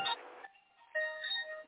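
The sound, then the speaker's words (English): A phone ringtone plays in two short electronic bursts with a brief gap between, made of steady, fairly high-pitched tones at moderate loudness, with no talking. “That's my phone.”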